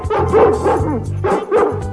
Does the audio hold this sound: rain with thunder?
no